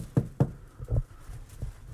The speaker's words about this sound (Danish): Se om der kommer nogen. Prøv at banke på herover.